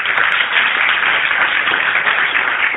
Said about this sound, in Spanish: Adelante, un aplauso fuerte para